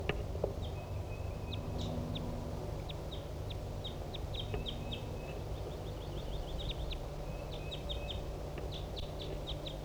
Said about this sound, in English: There's another wild bird here. It's 10:30 a.m. And so Decoy and 4-7 and the other newly caught birds are responding.